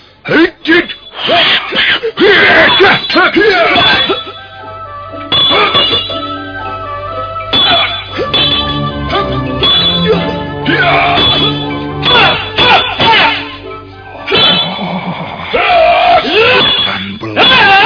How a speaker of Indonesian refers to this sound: Luar biasa pedang yang digenggam pendekar asing itu. Tanganku sampai bergetar kesemutan begitu tongkat pencabut roh membentur senjata aneh itu.